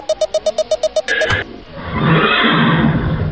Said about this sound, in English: Boss, we got all the horses rounded up.